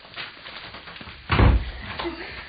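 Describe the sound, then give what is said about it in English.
A door is pushed shut with one solid thud, followed by a softer latching sound as it is locked, over a low background hiss. “Lock the door.”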